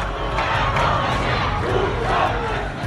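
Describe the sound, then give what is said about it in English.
A dense crowd of Iranians protesting in the streets against the government's cover-up shouts and roars together in a steady, loud wall of voices, with surges of rhythmic yelling rising over a constant low rumble of the mass. “Iranians filled the streets to protest against the cover-up, their rage compounded by the cratering economy and a leadership that seems completely out of touch.”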